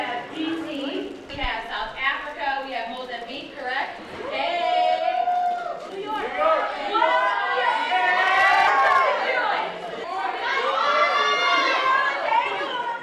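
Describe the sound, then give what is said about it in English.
A dense murmur of many overlapping voices from a diverse crowd, including many young people, fills a ballroom, steady and fairly loud throughout, with no single conversation standing out from the continuous crowd chatter. “The diversity of the crowd in the ballroom was palpable to anyone who entered.”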